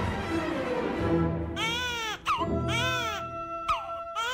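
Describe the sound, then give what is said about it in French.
A newborn baby cries in repeated high, wavering wails, three drawn-out bursts with short breaths between, fairly loud over a low murmur of background sound; the newborn of Nephthys in a retelling of Egyptian myth. “On a également appris qu'un bébé était né de cette union illégitime.”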